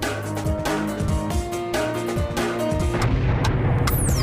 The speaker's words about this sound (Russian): Битва за битвой, взрывы и стрельба.